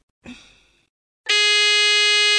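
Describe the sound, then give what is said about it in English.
Two quiz buzzers, each triggered by pressing a button on a phone, sound one after another: a short, bright tone that quickly fades, then a loud, steady, harsh buzz that holds until the end. No one speaks. “To answer, they press any button on their phone and we'll hear a buzzer.”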